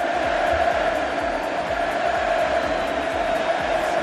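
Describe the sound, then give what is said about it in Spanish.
A large crowd in Naples chants "Messi, Messi" as FC Barcelona arrives at its team hotel, in a loud, steady rhythm, the massed voices droning on one pitch with regular pulses and no single speaker standing out. “A gritos de Messi, Messi, ha aterrizado el Barça y ha llegado al hotel de concentración.”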